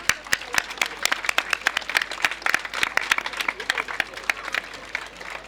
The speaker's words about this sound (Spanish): Vamos a darles un fuerte aplauso a todos ellos.